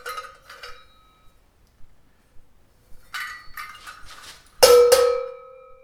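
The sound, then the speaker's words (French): Handmade metal bells, somewhat flawed, are struck several times, each giving a bright, ringing clang with sustained overtones; a few softer strikes early on, then a louder, fuller ring near the end that slowly decays. “Et ça, c'est des cloches que j'ai fait, qu'il a envoyé pour qu'il vienne en Espagne, qui sont un peu loupées.”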